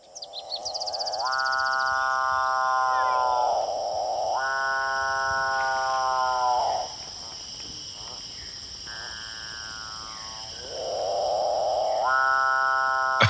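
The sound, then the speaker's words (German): A South American bird gives about four long, buzzy, droning calls, each a few seconds long, humming like an electric toothbrush, over a steady high insect-like whine. “Spielen wir mal zuerst den Vogel ab.”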